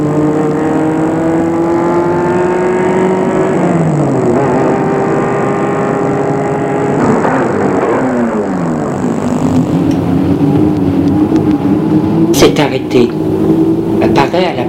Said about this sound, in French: Elle voit une voiture venir à elle. Elle a mis ses phares.